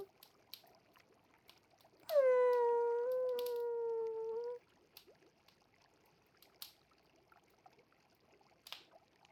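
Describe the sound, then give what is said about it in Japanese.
A single drawn-out dog howl, steady and slightly falling in pitch, lasts a couple of seconds and then stops, leaving only a faint trickle of water and scattered soft clicks. “おあんこは可愛がってもらえないと寂しくて遠吠えをしてしまうのです。”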